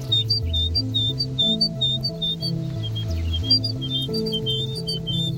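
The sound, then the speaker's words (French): A great tit sings steady repeated two-note phrases, high and clear, cycling throughout over a low, shifting tonal drone in the background. “La petite mésange charbonnière.”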